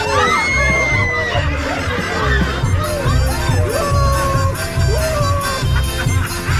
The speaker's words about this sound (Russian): в ту же секунду над самым ее ухом раздался пронзительный свист. И не успела она крикнуть, как уже толпа ринулась в сени, сшибла ее с ног и ударилась свистом и хохотом в избу.